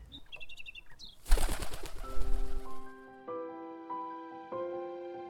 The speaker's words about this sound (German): Gustav beobachtet die Amsel, als sie ihre Schwingen ausbreitet.